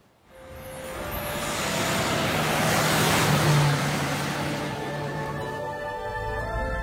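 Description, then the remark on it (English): A jeep engine turns over and catches, then runs with a steady, loud rumble and rising whine as the vehicle pulls away and drives on, with no talking. “Something's happened to this car. It's quieter.”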